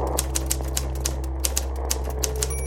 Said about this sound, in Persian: از طرفی صدای ماشین تایپ را دوست دارم.